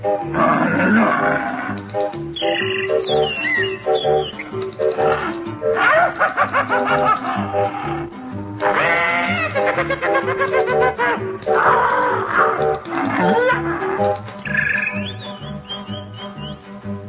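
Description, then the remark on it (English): A loud, continuous chorus of animal calls, hoots, squawks and roaring cries overlapping in bursts, busy, with no talking. “And hooted and squawked. And here is the sound they made.”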